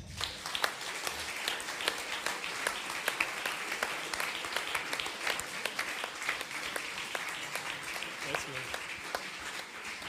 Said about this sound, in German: Begrüßen Sie mit mir mit einem warmen Applaus den Andy Wolf.